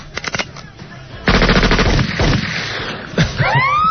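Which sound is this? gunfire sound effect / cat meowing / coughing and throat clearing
gunfire sound effect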